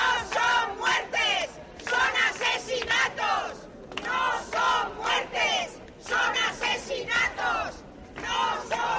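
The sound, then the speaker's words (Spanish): A midday protest crowd at the doors of the Palacio Consistorial, Cartagena's city hall, rallying against gender violence, shouts in loud, rhythmic bursts, many voices rising and falling together in repeated chant-like phrases with brief dips between them. “El sonido de este mediodía, como decíamos, a las puertas del Palacio Consistorial de Cartagena.”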